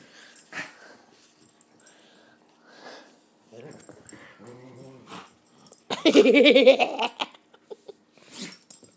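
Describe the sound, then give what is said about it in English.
A dog named Lacey lets out a sudden, loud sneeze, a single sharp burst following quieter snuffling and faint whiny vocal sounds, with a brief snort afterward. “Bless you, Lacey.”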